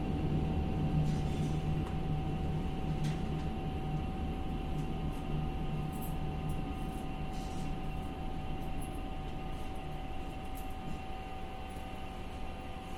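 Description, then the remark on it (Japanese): Steady interior rumble of a moving one-man (driver-only) local train bound for Kachigawa, a continuous low drone with rattling undertones and a faint sustained whine, holding level throughout with no voices. “この列車は勝川行きワンマン列車です。”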